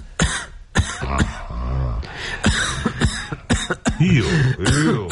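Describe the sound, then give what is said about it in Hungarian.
A series of sharp coughs and harsh throat clearing from one person, coming in irregular bursts over several seconds with a few rasping, hacking pauses between them. “Ó, köhögni.”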